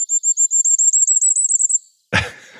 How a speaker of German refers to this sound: Ich spiele noch einmal für euch das Sommergoldhähnchen zum Abschluss ein.